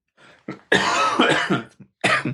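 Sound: cough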